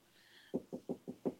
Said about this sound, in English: Tap on the glass. Your fish would be so confused.